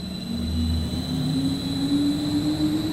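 A nearly 2-metre-tall gearless ring generator with 12 coils and 12 permanent magnets, turned by a motor via a shaft, runs steadily in a test hall near Kassel, Germany, giving a loud, continuous mechanical drone with a low hum, a slowly rising tonal whine and a high steady whistle. No one speaks.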